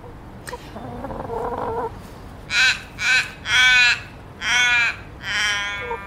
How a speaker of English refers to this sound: A beautiful sound, isn't it? It's a raven, isn't it? Mm, I think yeah. I first became really aware of it a few years ago in the Flinders Range. It's just so, if you get up in the morning, you just hear that sound,